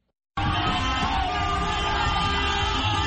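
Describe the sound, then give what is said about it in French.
A dense crowd of supporters in Mbao, Senegal, cheers, sings and shouts continuously, with steady car horn tones blaring through the roar, celebrating the release of Ousmane Sonko and Bassirou Diomaye Faye. The noise starts abruptly after a brief silence and stays loud throughout. “Coup de klaxon, chant, cri de joie, la libération d'Ousmane Sonko et son numéro 2, Bassirou Diomaye Faye, a été accueillie dans une grande liesse.”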